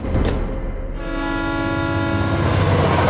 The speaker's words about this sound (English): A red and white train travels through the Japanese countryside.